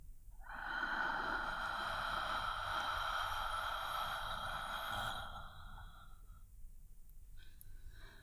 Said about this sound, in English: Long breath out. And again. Deep breath in. Hold it. Long breath out.